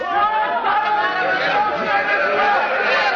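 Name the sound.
angry crowd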